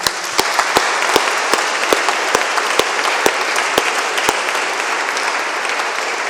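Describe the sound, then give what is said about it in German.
A crowd applauds steadily, a dense wash of many hands clapping with a few sharper, distinct claps standing out, sustained without letup and with no talking. “Auch dir einen Applaus,”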